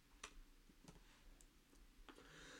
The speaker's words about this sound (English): I'm just typing that in for myself.